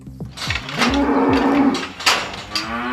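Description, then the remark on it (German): A cow named Bona gives a long, drawn-out moo lasting over a second, fairly loud, with rustling and shuffling farmyard noises around it and no one speaking, while feeding with the other cows in the feeding area of the Karohof farm in Tschugg, Seeland. “Zuerst ist die Bona noch gemütlich am Fressen, im Futterbereich des Hofs, zusammen mit den anderen Kühen.”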